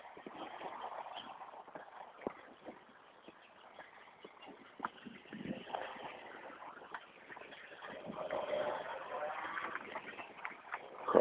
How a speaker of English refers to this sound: Early morning traffic heading off to work. People working on a Friday in the summer. Probably not happy about it.